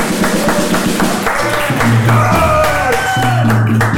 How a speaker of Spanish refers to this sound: Un fuerte aplauso para nuestro amigo